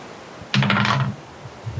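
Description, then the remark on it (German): A short clattering burst of dice tumbling and rattling across a tabletop, fairly loud, lasting about half a second before settling into quiet; the dice are rolled for a fitness check in a game. “Okay, Würfel auf Fitness.”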